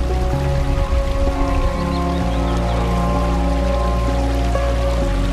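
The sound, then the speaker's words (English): Continuous rushing water of the River Feel where it reaches the Atlantic at the Cashin, south of Ballybunion, steady, with a constant pouring, splashing texture and faint sustained tones humming underneath throughout. “the small spring high in Rockchapel that wound its way through towns, fields and generations of people, has finally reached the Atlantic here at the Cashin.”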